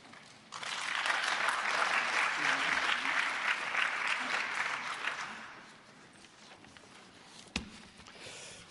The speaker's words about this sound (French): Voilà, bonsoir et merci de m'avoir applaudi en commençant, comme ça j'aurais au moins la satisfaction d'avoir été applaudi parce qu'à la fin, tout reste à faire.